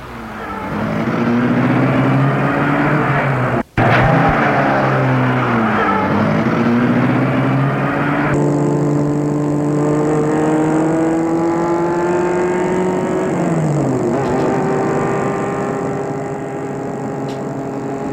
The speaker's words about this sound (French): Elle entre et il met la voiture en route.